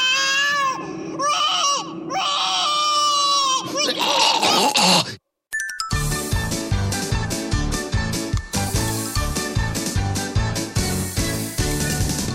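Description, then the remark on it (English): A child screams and cries loudly for about five seconds in shrill, wavering wails, then it cuts off abruptly and a beat-driven music track starts. “I wanna eat a huge piece of cheese and puke it on that kid who keeps screaming!”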